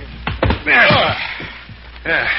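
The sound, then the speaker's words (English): A couple of heavy, muffled thuds as a man's limp body is thrown into a car, followed by strained grunting and voices. “Help me throw him into the car.”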